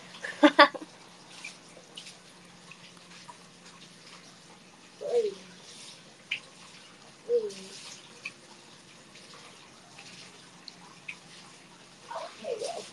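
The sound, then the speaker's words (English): Hot water runs steadily from a spout into a filling bathtub, a soft continuous rush with occasional splashes and knocks breaking through. “Well, it's still warm near the spout where the water's coming out, but not that warm yet.”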